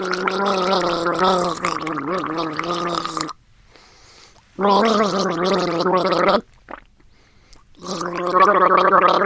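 gargling water

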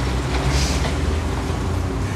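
inside a moving car

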